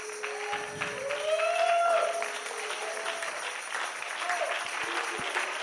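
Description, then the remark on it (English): An audience applauds steadily for several seconds, a dense wash of clapping with a few raised voices and whoops rising above it before it eases slightly. “You know who ought to be clapping right now?”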